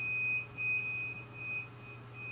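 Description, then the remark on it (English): A faint, high electronic tone from a laundry machine signaling that its cycle is done, sounding in long, nearly continuous beeps with short breaks over a low background hum. No one speaks. “You hear the beeping? Yeah, something's done in the microwave. No, that's the laundry.”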